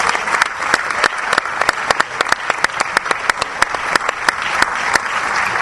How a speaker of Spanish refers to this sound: Vamos a recibir a Víctor Santamaría con un aplauso.